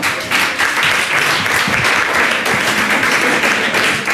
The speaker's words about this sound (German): Ihr Applaus, vielen Dank.